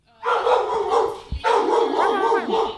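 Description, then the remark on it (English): A large, excited tan dog at an animal rescue in Northern Liberties, Philadelphia, lets out two long, loud, excited barking calls, each drawn out with a wavering, howl-like pitch, separated by a brief pause. No one speaks. “That's Leo. He's a large and excited tan dog who is a certified VGB”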